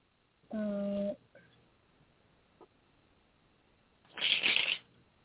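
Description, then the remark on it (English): A French deck of cards is riffle-shuffled once near the end, a quick, crisp burst of flapping cards lasting under a second, after an earlier short tonal hum and a faint click. “I will tell you that the shuffle and break was not a happy one.”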